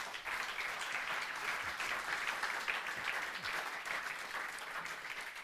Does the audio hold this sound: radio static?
no